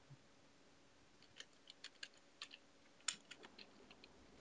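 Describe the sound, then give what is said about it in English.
Rapid, irregular keyboard typing with sharp clicking keystrokes in quick bursts, fairly quiet, with no voices over it, as someone furiously Googles. “I'm clicking. Googling. I'm furiously Googling right now.”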